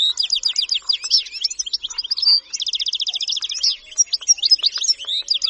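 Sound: bird song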